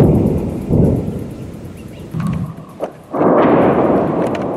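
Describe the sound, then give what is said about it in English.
Heavy explosions from Israeli airstrikes in southern Lebanon boom and rumble, several loud blasts rolling into one another with deep, lingering low-end thunder and no voices. “Explosions rocked southern Lebanon on Monday.”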